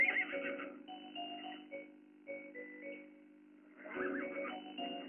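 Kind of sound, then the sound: animal, horse neighing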